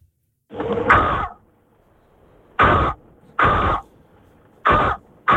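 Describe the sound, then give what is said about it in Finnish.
A listener of the Suomen Rap show mimics a crow's cawing, this week's animal, with harsh, raspy voiced bursts: one longer drawn-out caw, then four short, loud caws spaced at roughly even intervals, with quiet gaps between them. “Viikoittain vaihtuvaa eläintä pääset esittämään ja varis on tämän viikon eläin.”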